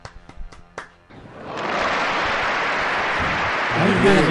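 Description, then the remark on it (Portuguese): An applause sound effect: a few sharp, separate claps open, then a dense wash of crowd applause swells in and holds steady and loud, with a brief cheering voice rising over it at the end. “Palmas, palmas efeito pra de nós.”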